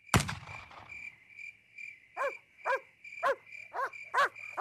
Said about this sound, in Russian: Днем я отпугивал врагов выстрелами, а на ночь привязывал к изгороди собаку, которая лаяла всю ночь напролет.